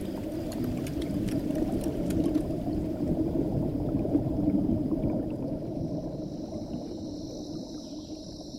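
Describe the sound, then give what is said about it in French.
A river current rushes and churns steadily without letup, a dense wash of flowing water carrying giant tree trunks. Faint high ticking calls come through early on, then a thin whine lingers near the end. “Le courant promène les troncs géants comme des brindilles, tandis que des milliers de voix sortent de l'eau entre deux vagues.”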